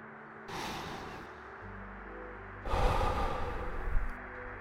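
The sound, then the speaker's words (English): Two slow, deep breaths, an inhale through the nose followed by a longer, heavier exhale through the mouth, over a faint low hum, with no talking. “Do this breathing again.”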